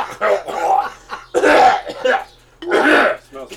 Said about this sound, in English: So I fucking cut all the coughs out. And I saved them in a long fucking thing, and I put them in after the video, and it's like.